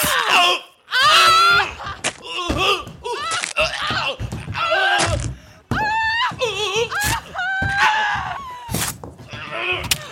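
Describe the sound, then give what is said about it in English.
A person screams and wails in loud, strained bursts, the cries rising and falling in pitch with brief breaks between them, continuing for about ten seconds. “That's it! Keep screaming!”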